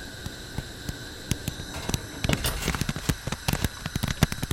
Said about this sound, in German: Oh Klaus, der Mais poppt! Perfekt! Jetzt schließen wir die Pfanne mit einem Deckel. Was machen wir jetzt, Koch Klaus? Wir müssen die Pfanne ein bisschen rütteln, schütteln und eine Weile warten, während der Mais weiter poppt.